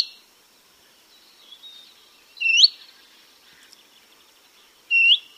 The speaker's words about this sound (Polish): Niech to będzie piecuszek, nieduży ptak wędrowny z rodziny świstunek, wcześniej zaliczany do pokrzewek. Nagrania pochodzą z portalu ornitologicznego xenocanto.org, a więc piecuszka, głos kontaktowy.